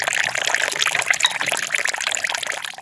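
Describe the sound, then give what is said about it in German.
Filter coffee, a Balinese coffee that has passed through cats, poured in a steady, unbroken stream for a few seconds, a bright splashing trickle of liquid filling a cup, with no voices. “Jetzt gießen wir den noch ein und dann trinken wir den.”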